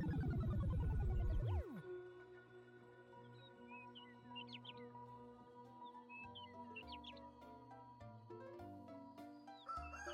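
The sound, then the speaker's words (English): Birds chirp and tweet in short, scattered bursts on a sunny morning over gentle sustained music, following a brief loud swooping musical flourish at the start. The birdsong is moderately faint and no one speaks. “What a beautiful day in the wagon. The birds are singing, the sun's coming in, all the gooseberries are geesing.”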